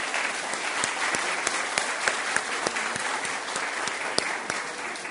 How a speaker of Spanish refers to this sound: Así es de que yo quiero empezar la charla del día de hoy pidiéndoles un aplauso a ustedes, para ustedes mismos, porque tienen un país increíble. Por favor.